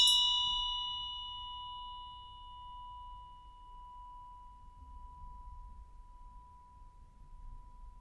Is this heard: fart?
no